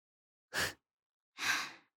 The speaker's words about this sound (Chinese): 你看起来很热啊。也是，这么闷的天，口罩里还带着这种东西，是挺累的。我都听到你的喘息声了。